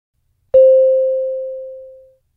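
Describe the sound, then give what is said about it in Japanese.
A single clear chime in an exam listening test, marking a blank in a short conversation, strikes once and rings out as a steady, pure tone that slowly fades over about a second and a half, alone in silence. “二人の会話は問題用紙に示されている順に進み、空欄のところでは次のチャイムが鳴ります。”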